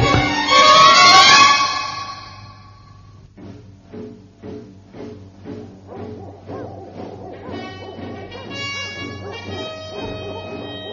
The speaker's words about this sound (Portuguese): Que isso? Que estou ouvindo? Não seria uma desgraça? Não pode ser, mas parecem latidos de cães de caça. Os caçadores andavam caçando por trás dos morros. Será que me farejaram estes malditos cachorros? Sim, são eles, vêm chegando.